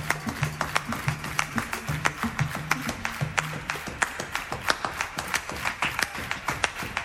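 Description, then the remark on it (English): A crowd claps hands together in a fast, steady double-time rhythm, the sharp claps loud and even, with a low humming tone underneath during the first half. “I want you guys to clap your hands, but I want you to do it double time.”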